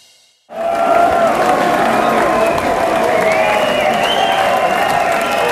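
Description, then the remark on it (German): A big audience at a sold-out concert at Huxley's bursts into closing applause after a brief hush, a dense, steady roar of clapping mixed with cheers and whistles that stays loud without letting up. “Der Abschlussapplaus.”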